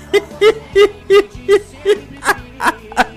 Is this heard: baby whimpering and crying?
yes